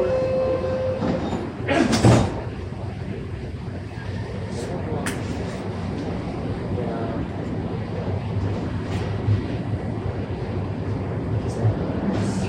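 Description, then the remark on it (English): A subway train rumbles steadily with a dense low roar and rattling wheels, with a brief hiss and clatter near the start as it pulls out of Davisville Station, bound next for Eglinton Station, continuing loud throughout. “Next station is Eglinton, Eglinton Station.”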